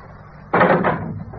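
A door opens with a sudden loud, noisy rush that holds for about half a second, then trails off into a softer rumble. No one speaks.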